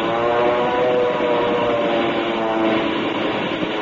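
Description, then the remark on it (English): A loud, steady roar of an airplane engine as a plane dives on other planes in an aerial dogfight over Lake Tahiba, a dense droning hum with a faint whine, continuous with no voices. “Hey, look, the second plane has made a dive on them. They're going to it.”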